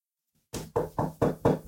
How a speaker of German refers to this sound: Ich habe versucht, laut zu klopfen. Ich hoffe, über die Aufnahmen hat man es gehört.